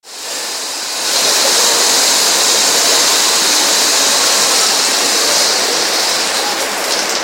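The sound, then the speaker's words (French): Water runs in a hammam with a steady, hissing rush that swells a moment after it starts, then pours on evenly without pause. No one speaks. “L'eau est devenue vapeur au hammam et je dois bientôt me rafraîchir.”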